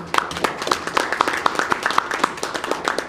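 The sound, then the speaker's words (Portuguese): Audience applause at a public hearing, given for a senator: a steady patter of many hands clapping at once, fairly loud and sustained throughout with no voices over it. “Uma salva de palmas para o meu senador.”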